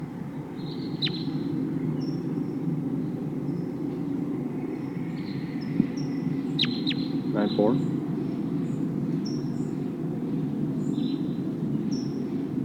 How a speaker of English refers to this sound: It sounds like there's a whole flock of crossbills here. Big flock of about 10 birds. And they're heading for a pine tree near here. Now they're perched up in the top of a tall pine.